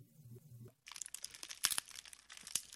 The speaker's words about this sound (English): My, there's nothing like a nice fire in the fireplace, especially these nippy afternoons in fall.